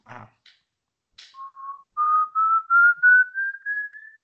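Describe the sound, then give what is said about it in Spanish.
A person whistles an imitation of El Silbón's whistle, a single long, slowly rising tone that climbs steadily in pitch over a few seconds, pulsing slightly in loudness, after a couple of brief breathy starts. “No, marico, sí te sale burde parecido, sí, es Ah, verdad. vos, tremendo silbón”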